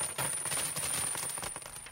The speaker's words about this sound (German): Ha, und das ist auch kein so übles Geräusch. Was ich hier zähle, sind keine Euro-Münzen, das sind Markstücke. D-Markstücke. Ja, die sogenannte Deutsche Mark, die gab es noch bis vor 15 Jahren und dann mussten wir sie umtauschen in den Euro.